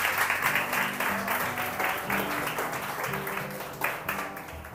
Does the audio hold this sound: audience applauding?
yes